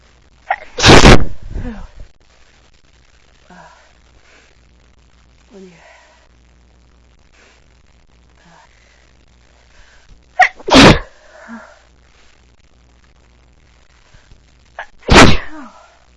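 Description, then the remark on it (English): Three loud sneezes from a person with allergies, spaced several seconds apart, each a sharp explosive burst, with faint breathing and soft murmuring in the quiet gaps between them. “I thought that I was gonna sneeze before, but it just, I hate when that.”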